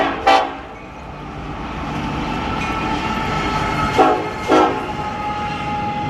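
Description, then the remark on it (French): Freight trains rumble past 2 meters away beside a metal fence being reinforced by workers, a loud continuous roar of wheels and cars broken by a few sharp metallic bursts, with no voices. “À 2 mètres, des trains de marchandises passent dans un bruit infernal.”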